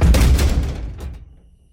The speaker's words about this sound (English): I bolted for it and slammed the door behind me, pressing my head to the wood.